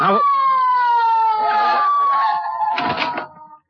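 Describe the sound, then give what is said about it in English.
A police squad car siren wails in one long, loud, steady tone that slowly slides downward in pitch as it winds down, with brief rough clattering bursts near the end. “Somebody here call for a squad car?”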